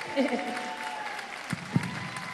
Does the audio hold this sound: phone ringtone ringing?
no